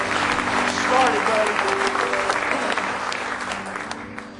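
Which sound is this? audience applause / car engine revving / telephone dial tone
audience applause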